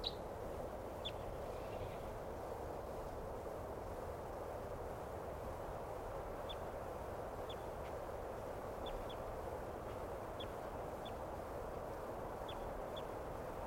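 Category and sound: bird, distant wild bird calling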